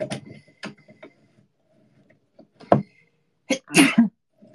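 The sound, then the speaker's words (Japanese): A single loud sneeze bursts out near the end, preceded by a short sharp intake, after some scattered clicks and light knocking sounds while parts are being screwed together with a hex wrench. “あ、くしゃみ出そう。”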